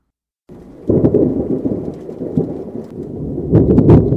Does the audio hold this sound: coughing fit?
no